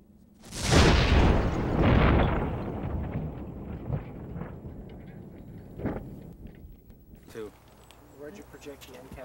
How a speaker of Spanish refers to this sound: Rápidamente se hace evidente lo destructivas que pueden ser estas pequeñas bombas de tubo. Esta explosión fue tan poderosa que parte de la caja de cartón perforó la puerta de acero del auto.